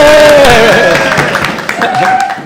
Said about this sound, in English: Okay, now everyone's going to clap.